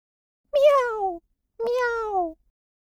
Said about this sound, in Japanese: Die Katze miaut. 猫がニャーニャー鳴く。